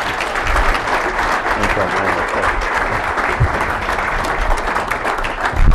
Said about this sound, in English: But anyway, we're very lucky to have General Amos here. Would you please welcome him with your warm applause?